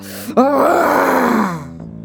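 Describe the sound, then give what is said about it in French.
A human voice lets out a single long, angry roar, rising then sliding down in pitch over about a second, a theatrical imitation of a very angry king roaring, with no words. “Le roi, très en colère, rugit.”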